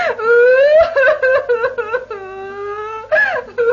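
A woman cries and wails in long, rising and falling sobbing moans, loud, with broken whimpering catches between drawn-out cries and no clear words.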